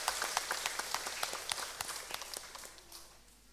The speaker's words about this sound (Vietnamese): Chúng ta hãy cho một tràng vỗ tay để tán dương hơn 6.000 người như trên.